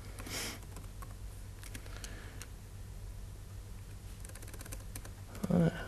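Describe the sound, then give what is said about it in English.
Soft, irregular clatter of keys being typed on a computer keyboard, scattered taps in uneven bursts over a steady low hum, with a brief voice-like sound near the end. “Typing is difficult.”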